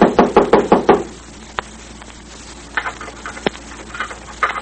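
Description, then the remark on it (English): A quick burst of about six firm knocks on a door, followed by near silence broken by a couple of sharp clicks and faint rattling as someone tries to unlock the door. “Someone knocked.”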